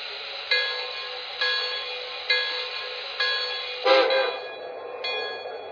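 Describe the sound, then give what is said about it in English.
A passenger train, train number 69, the Red Arrow, for New York, rumbles and hisses at a station platform on track one, with a steady rhythmic clack repeating about once a second and a brief louder burst of air near the end. No one speaks. “New York on track one. Train number 69, the Red Arrow.”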